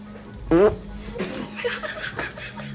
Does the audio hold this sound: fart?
yes